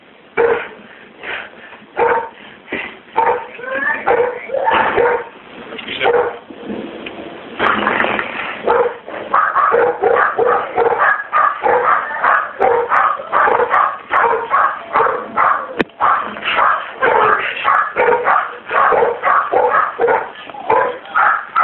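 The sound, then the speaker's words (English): Several dogs bark and yip continuously, a dense, overlapping chorus of sharp barks with a few higher whining yelps mixed in, steady and loud throughout. “you might have to get up and put the dogs up, okay?”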